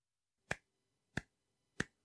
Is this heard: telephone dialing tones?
no